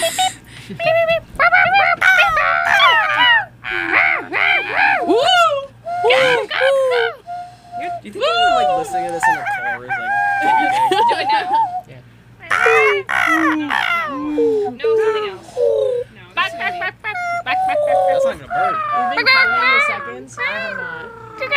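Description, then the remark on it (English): Thirty seconds of recorded bird sounds: dense, busy bird calls fill the whole stretch, squawky, sweeping chirps and whistles overlapping in bursts, loud, with a low steady hum underneath and only brief pauses. “Do you think it's time for our 30 seconds of bird sound?”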